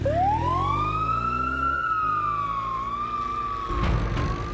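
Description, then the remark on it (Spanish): Ambulance sirens wail loudly and steadily before dawn as ambulances head to a house in South Africa, the tone sweeping up and holding high, with a low traffic rumble underneath and a brief burst of noise near the end. “Aquella madrugada sonaban las sirenas de las ambulancias que acudieron a la casa de una de las parejas más famosas de Sudáfrica.”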